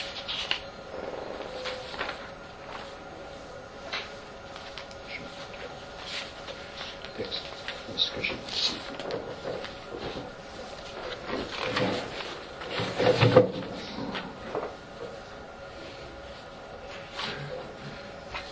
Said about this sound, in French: Papier de tous les côtés, mes novices me se moquent de moi à chaque fois que je dois faire une conférence. Je cherche un texte de Benoît XVI, le voilà.